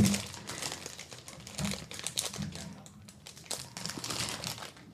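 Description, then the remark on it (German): Continuous crinkling of a plastic sample bag as it is handled and opened to unpack a piece of real permafrost from Cherskiy in Siberia, in the High Arctic, with irregular bursts of rustling and crackling over about five seconds. “Ich packe das mal aus. Das ist in einer Probentüte ein original echter Permafrost.”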